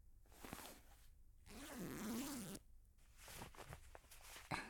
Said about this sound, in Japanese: うちの下、脱がせてもらってもいい？ここにね、チャックがあるの。